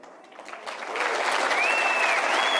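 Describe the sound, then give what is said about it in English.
An audience breaks into applause, the clapping swelling from scattered hands into a steady, dense roar, with a thin whistle rising above it near the end. “He actually paused long enough to let them clap.”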